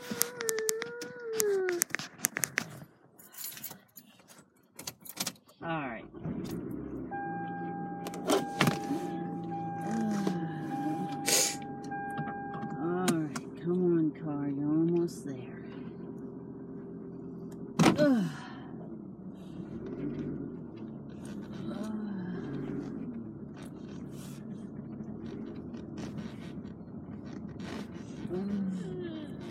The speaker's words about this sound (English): I hear that squeaking sound now, yeah. That sound? Whoa. Must be something with the brakes.